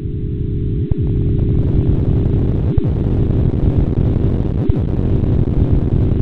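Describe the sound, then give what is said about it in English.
A loud, continuous low roar of sound waves from the Big Bang, measured by a NASA satellite, shifted far up in frequency and turned into sound with a computer program so human ears can hear them. It is dense rumbling layered with sweeping, interfering tones, punctuated by a few brief dips and clicks, with no voices. “You're hearing frequency-shifted sound waves from the Big Bang that were measured by a NASA satellite.”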